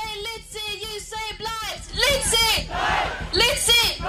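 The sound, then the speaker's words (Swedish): A crowd of protesters at a demonstration in Germany against the expansion of a coal mine, joined by climate activist Greta Thunberg, shouts in rhythmic, chant-like bursts, then swells into louder, overlapping yelling and cheering from many voices at once, with a few high shrieks cutting through. “så vi kan lyssna lite på när de skriker och gapar under den här demonstrationen i Tyskland, om du vill höra på det.”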